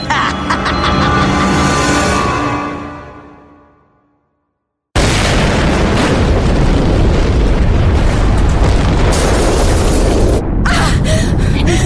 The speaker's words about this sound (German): Der die Explosion ausgelöst hat.